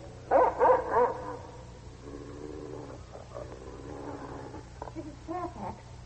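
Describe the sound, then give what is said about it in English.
A dog barks three times in quick succession, loud, then quieter low whines and murmuring sounds follow over a steady background hum. “Dog is that? He came with the master.”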